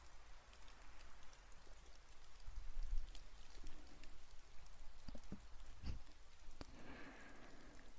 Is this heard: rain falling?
yes